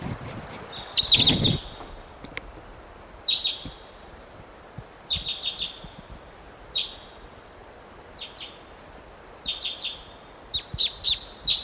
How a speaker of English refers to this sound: What a wild bird.